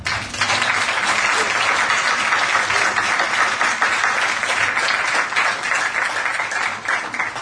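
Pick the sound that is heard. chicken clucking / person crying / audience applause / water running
audience applause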